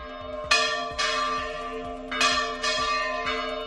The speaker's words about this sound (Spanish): Las campanas de todas las iglesias de Aragón sonaron a la vez a la 1:00 p.m. en solidaridad con los pueblos de la llamada España Vaciada como señal de alarma ante el problema de la despoblación.